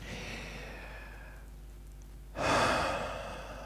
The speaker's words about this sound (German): Genau das. Atmen.